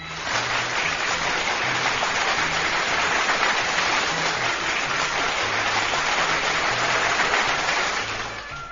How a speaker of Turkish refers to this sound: Yine çok güzel bir bölümdü. Kocaman bir alkış.